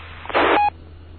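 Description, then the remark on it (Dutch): A single short electronic telephone tone, lasting about a third of a second, sounds clearly over a faint steady hum, with no voices. “Ik denk dat Erik telefoon heeft.”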